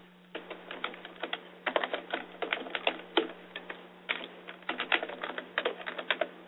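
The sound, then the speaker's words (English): Rapid, irregular clicking of keys on a computer keyboard, fairly quiet, with short bursts and brief pauses between runs of keystrokes, as someone types a zip code and email address into an online contact form. Nobody speaks. “Put our zip down, and our email address.”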